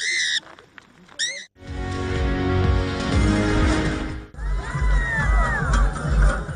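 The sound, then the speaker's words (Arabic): A dense, loud crowd of tribe members cheers and shouts continuously for several seconds, overlapping voices rising and falling, as barefoot men run across burning embers in a fire-dancing ritual of the Pa Then tribe in Tuyen Quang province, northern Vietnam, right after a few brief, high squawking calls at the start. “حافين الأقدام يركضون على الجمر المستعر وسط هتافات أفراد القبيلة في محافظة توينغوانغ شمال فيتنام، والرقص على النار هي طقوس يدأب عليها الذكور من قبيلة باتان منذ عقود من أجل زيادة الحصاد الوفير في الزراعة وطرد الشياطين حسب اعتقادهم.”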